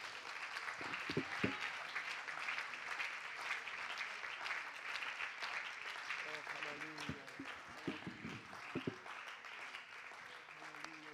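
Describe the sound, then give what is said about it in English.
A church audience claps hands for Jesus in a dense, steady wash of applause that lasts the whole stretch, with scattered voices calling out now and then beneath the clapping. “If you want to be a miraculous church, why don't you just give a hand clap to him right now?”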